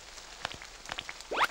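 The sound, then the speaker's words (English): Light rain falls in scattered, irregular drops pattering softly on a surface, fairly quiet, with a brief rising squeak near the end and no talking. “Listen, everyone. It started to rain.”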